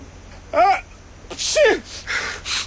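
A man sneezes loudly without holding his hand in front of his face: a rising 'ah' intake, a pause, then a sharp explosive burst, followed by a couple of softer breathy, hissing exhales.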